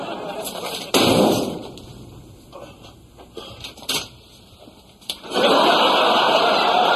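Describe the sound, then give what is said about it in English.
A couple of sharp, loud bangs like a door being slammed shut, each followed by a burst of noisy commotion, with a few smaller knocks between them. “I'm going to slam the door on your head.”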